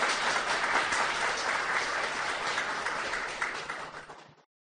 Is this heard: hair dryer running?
no